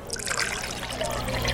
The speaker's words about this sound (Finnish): Täyttäkää nuo astiat vedellä.